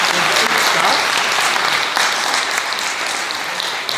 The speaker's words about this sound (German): Aber ich finde es so cool, dass ihr da seid. Gebt den Kindern nochmal einen Applaus, dass ihr da seid.